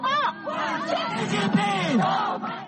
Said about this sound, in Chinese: 在会场外围的一处场所，同时聚集着抗议和欢迎习近平访美的人群。欢迎人群挥舞着中美两国国旗，喊着“中国万岁”的口号。